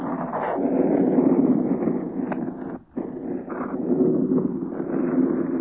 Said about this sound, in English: 36, 38 planes against the wind that's rushing through the rigging of this mast top.